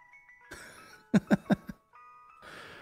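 A thin, tinny electronic ice cream truck jingle plays a simple stepping melody of sustained notes, broken up by bursts of noise and four heavy, rhythmic thumps before the tune resumes.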